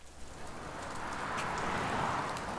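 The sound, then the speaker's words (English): Steady rain falls in a continuous, even hiss with a few brighter droplet patters, building slightly louder over a couple of seconds, on an afternoon in Northeast Washington, D.C. No voices. “It was a rainy afternoon in Northeast Washington, D.C.”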